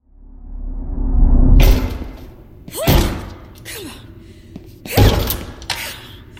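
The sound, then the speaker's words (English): Someone straining against a stuck classroom door: a rising rumble, then three heavy, jarring thuds with rattling and short creaks between them, loud, with no talking. “The door isn't going to open”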